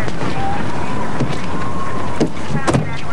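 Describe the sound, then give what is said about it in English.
Steady ferry dock ambience on a moonlit night: a constant rushing wash of wind and water, a faint drawn-out tone drifting, and a couple of short knocks near the end. “Back on the moonlit ferry dock, Detective Cassidy parks her car behind a police cruiser.”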